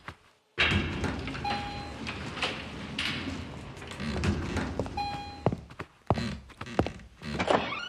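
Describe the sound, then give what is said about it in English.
Elevator doors rumble shut with a dull thunk over a steady hum, followed by a few softer thuds; brief high ding-like tones ring out twice along the way. “Doors are locked. We'll take the elevator.”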